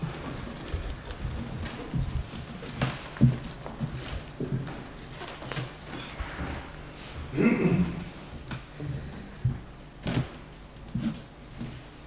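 Irregular rustling and shuffling of paper sheets and sheet music, with soft thumps and scrapes as papers are sorted and moved around while someone searches for a piece of paper, fairly quiet and uneven in rhythm.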